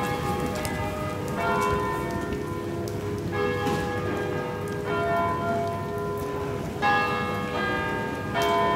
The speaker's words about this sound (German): Die Glocken erinnern mich an den nächsten Termin.